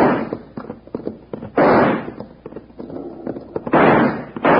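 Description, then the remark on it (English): A rapid volley of sharp six-gun revolver gunshots, fired at long range to scare off attackers, irregularly spaced, with two heavier, louder blasts that ring out and rumble briefly. No one speaks. “Well, we can't hit him at this range with a six gun. We can scare him off, though.”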